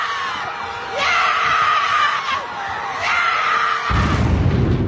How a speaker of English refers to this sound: She's screaming about that NIL money.